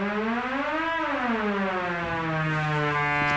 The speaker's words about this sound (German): Den ersten Stift setze ich hier jetzt rein. Und damit habe ich einen Sägezahn-Sound gewählt, dessen Tonhöhe ich einstellen kann.